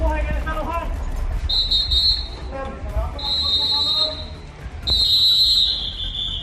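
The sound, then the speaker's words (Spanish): Three long, shrill whistle blasts sound in succession, each held for about a second, with raised voices calling out between and beneath them in a noisy outdoor setting; Civil Protection, Local Police and Guardia Civil blow whistles to warn residents as an evacuation begins in a neighbourhood of Gran Canaria, Canary Islands. “Protección Civil, la Policía Local y la Guardia Civil hacen sonar sus silbatos para avisar a los vecinos.”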